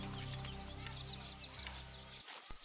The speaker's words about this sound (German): und beginnt mit Vogelgezwitscher und spielenden Kindern.